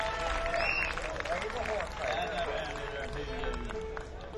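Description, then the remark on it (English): A crowd applauds steadily for several seconds for old-timey hoedown fiddle player T.J. Lundy, dense clapping mixed with whoops and a few sharp whistles, loud and sustained without a break. “Give him a good hand, and he's going to play a good old hoedown, yeah.”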